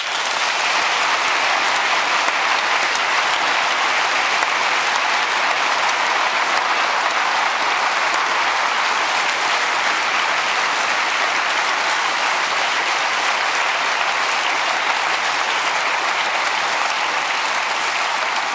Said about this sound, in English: Of course, this cannot be done without a lot of sponsors who sponsor the hardware, the fibers, the bandwidth, the everything. So I want some applause for all these people.